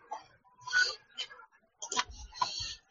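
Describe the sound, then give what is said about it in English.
Clatter of typing on a computer keyboard, keystrokes landing in irregular bursts with short pauses between them, with no talking. “I can hear breathing and typing.”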